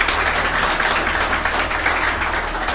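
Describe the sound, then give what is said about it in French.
Steady, dense applause from the audience in the hall of a Radio Kapi broadcast on the situation in Tanganyika province, a continuous wash of many hands clapping at a fairly loud, even level with no voices rising above it. “Merci de manifester votre présence dans la salle par des applaudissements.”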